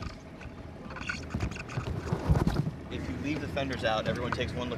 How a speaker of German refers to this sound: An der Hafenausfahrt muss das kleine Motorboot noch einen Ölfrachter passieren lassen.